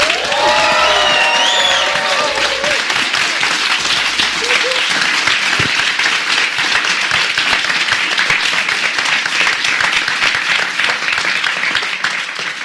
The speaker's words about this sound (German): So, ich kann ja sagen, an dieser Stelle haben wir den ersten Tonschnitt gemacht. Nach 35 Minuten ebbte der Applaus ab.